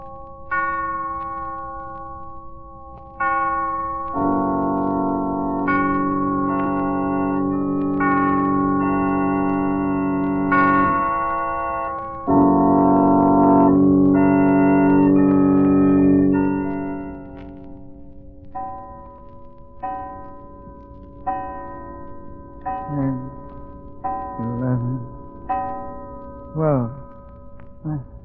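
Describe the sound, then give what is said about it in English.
A clock strikes midnight with ringing, resonant bell tones that sustain and overlap, followed by a series of separate strikes fading out, with some sliding vocal-like sounds near the end. “He'll rise from bed in a hypnotic state, dress and start for a walk just as the clock strikes midnight.”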